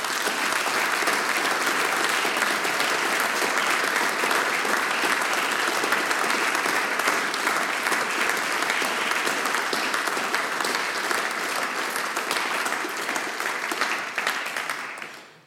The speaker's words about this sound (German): Nochmal ein großer Applaus für unseren Veranstalter.